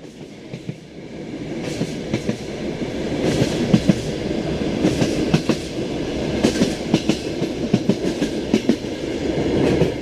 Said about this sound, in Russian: И поезд уже поехал.